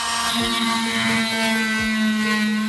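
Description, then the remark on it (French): An oscillating plaster saw whines steadily at a high, buzzing pitch, loud, with brief dips and grinding shifts as it cuts away the cranial bone of a skull, running continuously without any voices. “Je commence par retirer l'os crânien à la scie à plâtre.”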